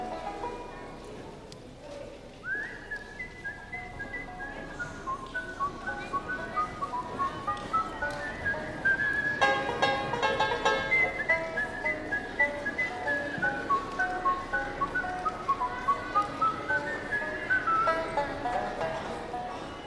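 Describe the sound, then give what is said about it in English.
Someone whistles a lilting, wandering tune, clear, the melody rising and falling continuously for about twenty seconds over a steady, regular tapping rhythm in the background. “He was whistling this tune to himself.”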